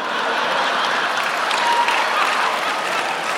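A large audience claps steadily and loudly throughout, a dense, continuous wash of applause with laughter mixed into the crowd noise and no one speaking over it.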